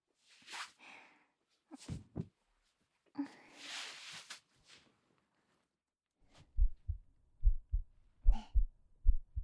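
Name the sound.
heartbeat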